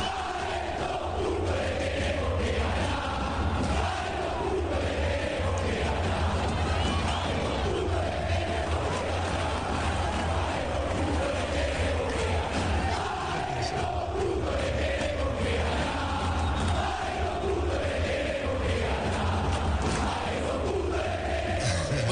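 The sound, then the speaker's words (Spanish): A huge crowd of football fans at a ground chants in unison, a dense, steady roar of many voices singing a rhythmic terrace song, sung when their team is losing, that holds loud and unbroken throughout. “Y en cualquier cancha, cuando el equipo favorito anda perdido, la hinchada grita este canto.”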